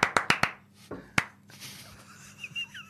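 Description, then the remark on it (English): A quick run of four sharp hand claps, then two more spaced-out claps, each one crisp, as several team members clap in turn in a rotating clap, followed by quiet room hiss. “Do we want a clap from everyone?”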